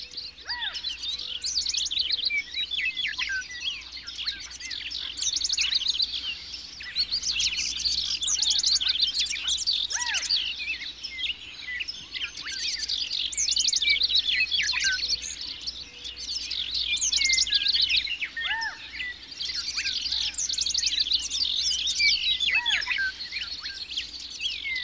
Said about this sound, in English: Just before the first rays of light reach the horizon, a bird song announces the arrival of dawn. More and more birds of every species join in, and the bird song quickly builds into a full riotous cacophony known as the Dawn Chorus.